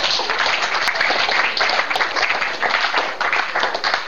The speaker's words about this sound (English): It is a prick in the heart, but even with that, just give Jesus a clap offering.